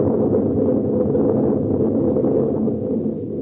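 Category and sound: nature, thunder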